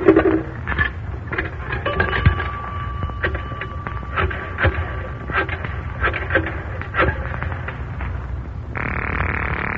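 payphone coin and dialing

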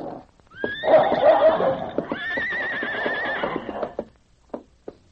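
horses neighing and whinnying

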